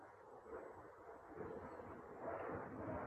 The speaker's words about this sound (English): Here at the Hermitage now, a dog barking down the street. Sounds of airplanes in the sky.